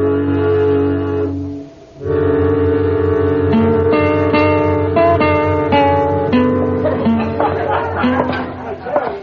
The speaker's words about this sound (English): So where'd you get all the crowd? The tailheads in. The bar Double D from the Panhandle.